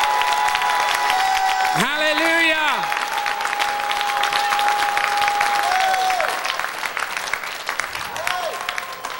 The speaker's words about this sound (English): Can you give God a hand clap of praise tonight? Hallelujah.